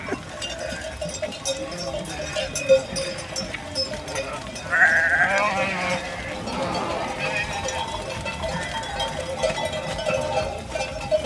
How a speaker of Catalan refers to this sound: Quantes ovelles més o menys hi ha aquí? Aquí hi ha 600 ovelles.